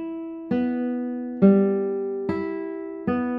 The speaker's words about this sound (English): Even with a spruce top, which usually tends to sound more bright and sometimes crystal clear, for me this guitar has got a super soft tone, and I love that.